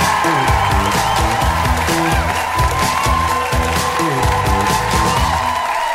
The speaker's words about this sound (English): Please give it up one more time for …!